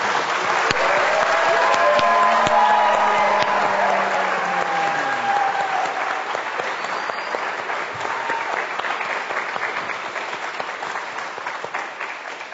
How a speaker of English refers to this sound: So let's give a big round of applause to these three.